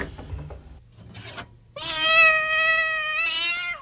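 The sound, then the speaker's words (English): A cat named Oliver, about to be fed, lets out one long, drawn-out meow lasting about two seconds, loud, preceded by a brief rasping, rubbing noise with no talking. “Now, where's that cat? Here, kitty, kitty.”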